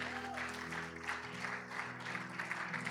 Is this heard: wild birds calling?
no